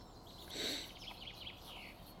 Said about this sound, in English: The birds are still singing.